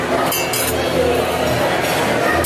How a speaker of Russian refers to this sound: Текила, very good. Так, наливает текилку. Боже, и куда он ее?